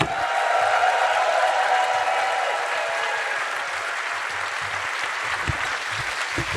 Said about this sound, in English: Clap your hands for the pair of them!